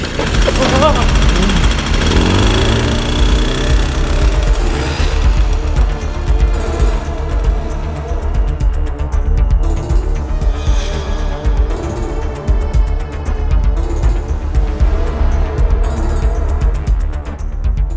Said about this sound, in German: Bergauf tat sich das Motorrad schwer.